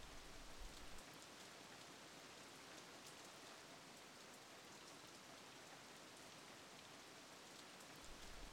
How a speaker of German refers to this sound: Der Donner des Regens.